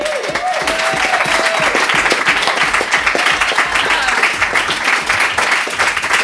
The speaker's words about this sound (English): So coming up next, we have someone who graduated from college today. So let's applaud that as well as her story,